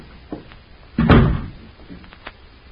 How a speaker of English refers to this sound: Oh, here, let me open the door. Oh, I can get it.